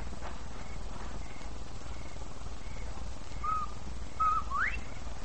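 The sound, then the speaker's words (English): A person whistles a bobwhite quail call, a short note followed by a sharply rising one, over a steady low background rumble, with fainter whistled tones earlier. “When you're ready, whistle like a bobwhite.”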